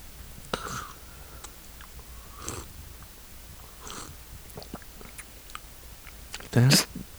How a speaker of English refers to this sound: You have to slurp like that. It's hot. I'm also drinking hot coffee, and I'm not slurping.